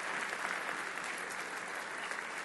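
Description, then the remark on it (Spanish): A large crowd claps steadily in applause given to God for his mercy, a dense wash of applause that holds at a constant level without pauses or voices standing out. “Le damos un aplauso a Dios por su misericordia.”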